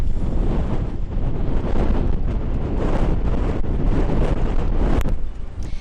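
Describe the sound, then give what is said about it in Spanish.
Strong wind roars steadily across the microphone with crashing sea waves churning underneath, a loud, continuous buffeting with no voices. “Hoy la situación en el mar y en el viento vuelven a ser los protagonistas.”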